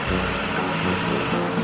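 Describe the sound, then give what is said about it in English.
A tractor in four-wheel drive, pulling a 2-ton pickup with a trailer by a chain wrapped around an axle on a wet hill, runs steadily under load: a loud, continuous low rumble with a throbbing, slightly uneven drone and gritty mechanical noise on top, with no talking. “Stop the tractor, bring it back, get another bite, right over here.”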